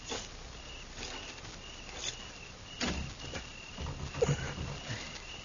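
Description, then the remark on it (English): A door is rattled and jostled against its bolt, with several short, irregular knocks and clatters spread over a few seconds, fairly quiet against a faint background hiss. “I'm going to try the door.”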